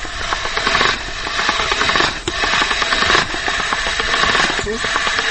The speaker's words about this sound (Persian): خب آل گوشت همراه سیر در دیگ بخار که قبلا مجهوش شدیم او را از ماشین گوشت میکشیم.